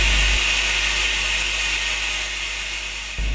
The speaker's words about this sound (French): où nous découvrons le spectacle grandiose des chutes d'Iguaçu, parmi les plus belles du monde, est classée au patrimoine mondial par l'UNESCO. Elle compte plus de 200 cascades, dont je vous laisse d'ailleurs apprécier le volume sonore.